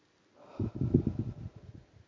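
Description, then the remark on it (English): A single slow, deep breath, soft and slightly rough, lasting over a second with no talking around it, taken at the end of a guided practice. “And as we come to the end of today's practice, once more, feeling that breath, deepening and lengthening the breathing, just for two or three more deeper breaths.”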